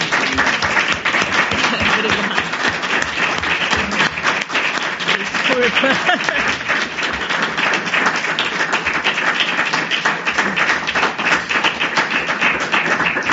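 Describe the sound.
Sustained audience applause, a dense crackle of many hands clapping at a steady loud level for over ten seconds, with faint voices murmuring underneath.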